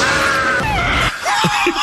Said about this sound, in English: The sounds. Oh. He had to scream the most in Total Recall.